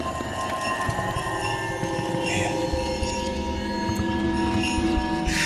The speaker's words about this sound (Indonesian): Dari jauh, sayup-sayup terdengar suara lonceng. Mirip seperti suara lonceng delman.